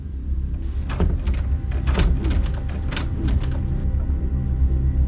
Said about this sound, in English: Someone was opening the door with a latch key.